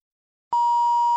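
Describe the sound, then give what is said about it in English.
A single steady electronic beep signalling that a listening-test recording is about to start, clear and fairly loud, holding one pitch for under a second after a brief silence, then cutting off abruptly. “You will hear a beep each time to tell you that the recording is about to start.”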